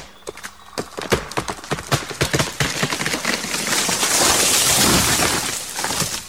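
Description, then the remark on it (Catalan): A crunchy bite into a Magnum Galindó chocolate ice cream bar, with a triple layer of crunchy chocolate filled with more crunchy chocolate: a quick run of sharp, irregular crackling snaps, giving way to a loud, steady crackling hiss. No one speaks. “Escolta la mossegada més refrescant.”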